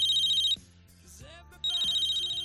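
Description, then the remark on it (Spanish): A mobile phone rings with a call from the bank's number saved in its contacts, in two bursts of a bright, rapidly trilling electronic tone, separated by a short gap where a low sliding musical sound and faint tones fill in. “Pasa más o menos ese tiempo, te llaman desde un número que es el que tú tienes en la agenda de tu móvil, es decir, que identificas a la perfección el teléfono de tu entidad.”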